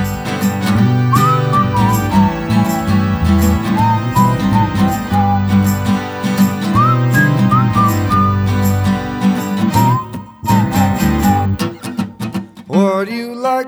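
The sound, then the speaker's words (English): A whistled, bird-like melody imitating a bird of paradise's song warbles in short rising and falling phrases over a busy, steady musical backing, ending with a few upward swooping calls. “Bird of paradise is singing out his song.”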